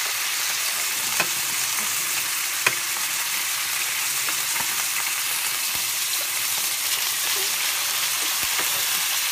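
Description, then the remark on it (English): Chicken frying in a hot pan kept on high heat gives a steady, dense hiss of sizzling, broken by scattered sharp crackles and a few louder pops, with no voices over it. “So the reason why I've kept it really on high is really because I want it to get really, really hot.”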